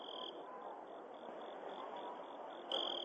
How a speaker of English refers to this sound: I heard crickets. I didn't hear breathing.